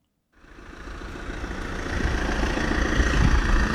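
A small scooter engine in Paris idles, its steady low putter and mechanical hum starting abruptly and growing slightly louder and rougher over a few seconds, with no voices.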